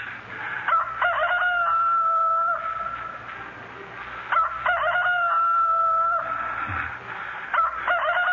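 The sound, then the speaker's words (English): A rooster crows loudly, two long drawn-out cock-a-doodle-doos with a short pause between, and a third crow starting as the sound ends. “My heart's splitting as yours did to hear the cock crow.”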